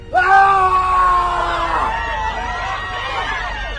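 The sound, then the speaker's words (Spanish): A harrowing human scream rings out loud from a thick fog surrounding a warehouse, a long sustained wail that breaks and slides downward, followed by agitated, overlapping cries and murmuring voices of panicked people. “Las personas impresionadas entran en pánico al escuchar un desgarrador grito que vino de la niebla.”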